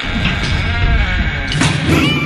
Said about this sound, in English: Oh, did you hear that little scream, Tyler?